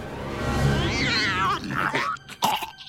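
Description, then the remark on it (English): A voice imitates a young lion cub's roar: a strained, rising growl lasting about a second and a half, then a few rough, breathy snarls and a sharp final burst, loud. “Sucked in the biggest breath I could. Dad, I'm ready. You got it? I got it! We'll let him have it! Roar, son!”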